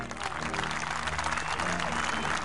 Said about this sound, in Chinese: 雷鸣般的掌声响了起来。观众们为这特别的踢踏舞大声喝彩。